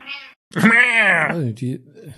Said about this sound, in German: Warum wird da rumgemaunzt? Die ist unzufrieden, die Dame.